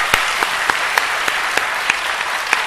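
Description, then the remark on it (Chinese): A crowd applauds steadily to give glory to God, a dense wash of clapping with sharper claps standing out at a regular, brisk beat. No one speaks. “我们感谢神，荣耀归给神，鼓掌归荣耀给神。”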